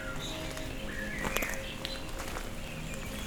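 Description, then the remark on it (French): Birds sing outdoors on a trail north of the Cagire in the Pyrenees, with thin whistles and short chirps scattered over a steady open-air hush, along with a few soft crunching steps or clicks. “Pour notre carte postale sonore, je vous amène vers son nord du Cagir avec, pour seule compagnie, le chant des oiseaux.”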